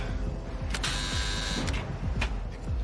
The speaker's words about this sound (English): He approaches the large metal door, illuminated by a single light hanging above. He presses the buzzer.